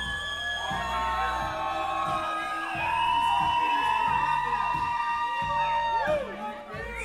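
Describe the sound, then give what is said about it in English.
A large crowd outside screams and cheers loudly and continuously for a musician to play one more song, many voices overlapping in high-pitched yells and whoops that swell and sustain throughout, energetic. “All right, they're all outside, so you gotta scream as loud as possible so they hear you.”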